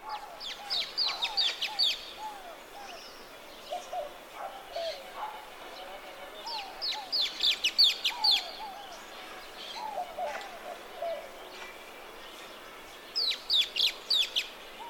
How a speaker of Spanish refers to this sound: Se ve como un pequeño Luis bien te veo, pero los sonidos son muy diferentes. Aquí están los chillidos del Luisito.